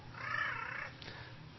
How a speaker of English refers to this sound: What is that kind of bird that does that? It's a crow. But this is a nice sound from a crow, the nicer sound than they usually make. Gentle at the moment.